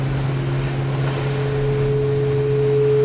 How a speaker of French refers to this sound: Et c'est pour ça que j'aime les nuits en mer en fait. J'aime les nuits en mer parce que je ressens le bateau sur l'eau. Quand c'est comme ça, mais qu'est-ce que je l'aime mon bateau ?